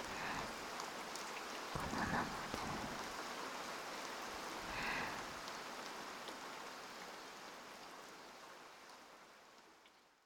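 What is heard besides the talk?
rain falling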